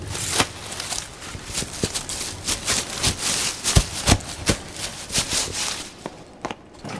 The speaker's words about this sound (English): These leaves sound like chocolate crunch.